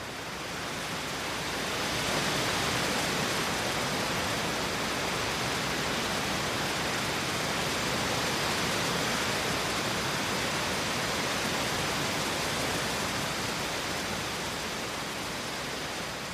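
Wind sweeping through a big weeping willow tree, the whole tree heaving backwards and forwards and its long trailing fronds ebbing and flowing, making a steady, dense rustling hiss of leaves that swells slightly early on and holds at an even level throughout, with no voices.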